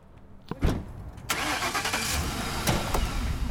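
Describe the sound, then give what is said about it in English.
A car engine turns over after a couple of sharp clicks, then catches and runs steadily at a loud idle with a few brief bumps and knocks as it gets moving, the car driving to a home in the Bayview district. “We drive over to the woman's home in the Bayview district”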